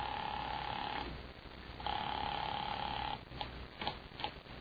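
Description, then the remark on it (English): A telephone call goes out over a muffled line: two long ringback tones sound in the earpiece, separated by a short pause, followed by a few soft clicks as the line connects. “Calling that number.”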